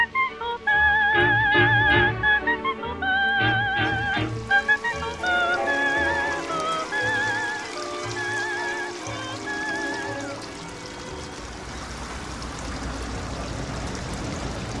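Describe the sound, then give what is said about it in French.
Music with wavering sustained tones fills the first part, then gives way to a steady rush of flowing water from the Wien, a very small river running along the city of Vienna, flowing continuously to the end. “Und dieser kleine Fluss, das ist da.”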